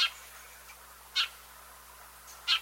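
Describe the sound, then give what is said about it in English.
Eurasian tree sparrow calls: three short, bright chirps spaced about a second apart, fairly faint, with no other sounds around them. “a dozen or so Eurasian tree sparrows from Germany were released”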